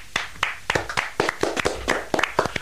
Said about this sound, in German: Tosender Applaus damals im Studio.